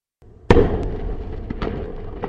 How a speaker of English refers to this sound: We begin tonight with some breaking news in Cape Canaveral. There's been what appears to be an explosion on the new Origin launch pad.